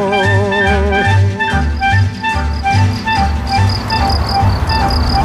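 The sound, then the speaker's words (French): Crickets chirp in a loud, steady chorus at Fernand's place, their trilling pulses repeating in a regular rhythm for several seconds with no voices. “Donc ça, c'est chez Fernand, côté Grillon.”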